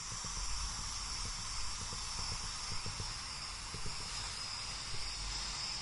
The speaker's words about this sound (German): Na, habt ihr es erraten? Das war eine Luftballonpumpe. So klingt es, wenn die 63 internationalen Künstler die Luftballonwelten aufbauen.